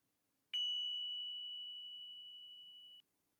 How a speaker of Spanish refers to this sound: Y con el sonido de las campanillas, dejándote llegar más y más ahora.